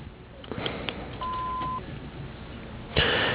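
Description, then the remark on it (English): A single steady electronic beep rings out for about half a second, clear and mid-pitched, the voicemail answering machine tone of the firm Signature Earthworks, followed by a brief burst of noise and clicks. “We're not around to take your call. Please leave a message after the beep.”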